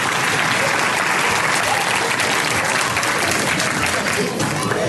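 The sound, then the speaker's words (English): Sustained applause from an audience for a group of volunteers, a dense, steady wash of many hands clapping at once, fairly loud and continuous throughout with no pauses. “Can I have a big round of applause for all of my willing volunteers?”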